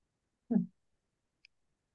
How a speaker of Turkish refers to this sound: Makasım da çok da iyi kesmiyor ama. Ben niye bu kötü kesen makası almışım? Börek makasından daha iyi keser herhalde. Benimki berbat.